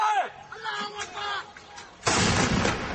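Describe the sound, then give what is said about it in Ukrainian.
Artillery fire: a sudden, loud, roaring blast bursts in and keeps rumbling to the end, after a quieter stretch of indistinct voices and scattered noise. “Але звук артилерійного вогню не може перекрити голосів, які дедалі гучніше звертають увагу на слабкі місця у новій стратегії Вашингтона щодо цього регіону.”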